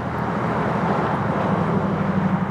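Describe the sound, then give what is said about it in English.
A steady, fairly loud roar of traffic on Skyway, the main road into the town of Paradise, a continuous rumble of passing vehicles with a low droning hum underneath and no voices. “What you're seeing is Skyway, which is the main feed, and that traffic is evidence that There's people living here.”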